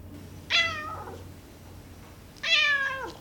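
cat meowing

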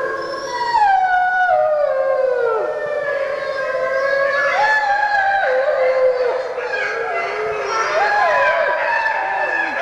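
dogs howling

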